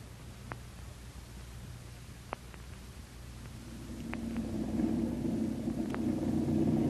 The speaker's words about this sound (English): There they are. Four good planes with their engines warm and filled with gas, we hope.